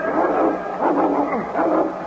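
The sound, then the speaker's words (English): A Malamute dog named King barks three times in a steady rhythm, each bark drawn out and resonant, loud, with no talking around it. “A slow smile spread over his face, but as he braced his hand to rise, he heard the dog.”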